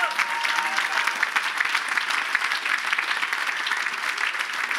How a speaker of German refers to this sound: Lass uns einen Applaus geben unserem Jesus Christus.